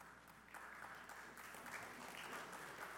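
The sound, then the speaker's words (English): A church audience claps steadily throughout, a dense wash of many hands applauding together, with no voices standing out above it. “This week, you can clap all you want.”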